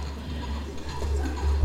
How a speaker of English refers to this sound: Before long, a noble knight in shining armour came galloping along the path.